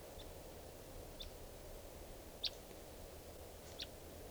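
A wild bird, recorded at 3:10 p.m., gives four short, high-pitched chirps at irregular intervals, mostly faint with one somewhat louder, over a steady low background hum.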